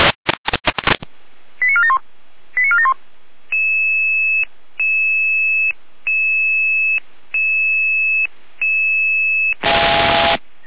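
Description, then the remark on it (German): German radio dispatch alerting tones alerting the Neustadt fire brigade to an emergency door opening requested by police: a few sharp static clicks, quick stepped tone sequences, then six evenly spaced, steady electronic beeps, ending in a loud burst of radio noise. No voices. “Hier damit, Alarmierung.”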